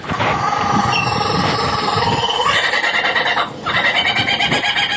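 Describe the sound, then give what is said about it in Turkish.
A male lyrebird mimics a kookaburra's laughing call, a loud, continuous cackling chorus of rapid repeated hoots that breaks off briefly before surging again. No one speaks. “And he does that by copying the songs of all the other birds he hears around him, such as the kookaburra.”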